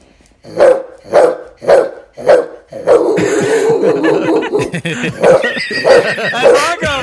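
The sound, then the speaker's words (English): A woman imitates a barking dog: four sharp, evenly spaced barks, then a louder, longer run of rough, growly yapping and whining dog noises. “So if you have a dog, turn the volume up as loud as it'll go and record their reactions to me barking like a dog.”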